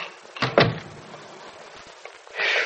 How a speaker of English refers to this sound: Hey, I guess maybe I ought to close the door, too, huh?